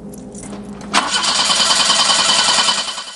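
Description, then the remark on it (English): In a car park, a woman turns the ignition key and the car's starter cranks with a loud, steady grinding whir for about two seconds, the engine not catching, after a brief low hum. No one speaks. “The woman licks her lips frantically, willing the engine to start.”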